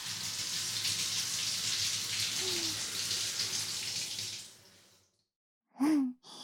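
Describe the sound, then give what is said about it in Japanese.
Water runs in a steady, hissing stream as shampoo foam is rinsed from hair, lasting several seconds before fading to quiet; a short breathy sigh-like sound follows at the end. “それにしてもかなり泡立ってるうさ。ほら、どんどん流れてってるうさよ。”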